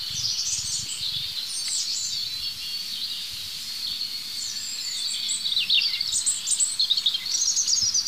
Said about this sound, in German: Jetzt habe ich mich gedreht zu dem anderen Rotkehlchen, es ist gerade still geworden. Oh, da geht's los.